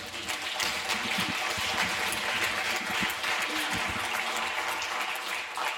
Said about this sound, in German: Ihr dürft auch gerne klatschen.